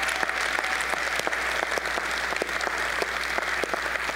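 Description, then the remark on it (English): An audience at Living Faith Fellowship applauds its small group leaders, many hands clapping steadily in a dense, sustained wash with sharper individual claps popping out, filling the room for a few seconds with no talking. “If I could get a round of applause for every small group leader in the room who lays their life down.”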